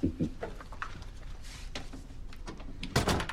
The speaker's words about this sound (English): She closes the door and he hangs a sign on the handle.